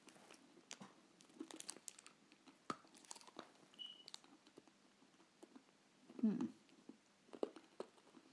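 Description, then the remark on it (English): Crunching and chewing of milk chocolate with a very hard hazelnut centre, with irregular sharp cracks and clicks and one louder crunch burst near the end, with faint mouth noises between bites. “Well, it's milk chocolate with a very hard hazelnut centre.”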